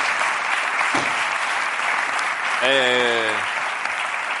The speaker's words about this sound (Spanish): Un mundo prohibido de Salvador Calvo, de Ana Castillo, Ana Wagener y Luis Tosar. Vale, pues ya está, pues un aplauso también.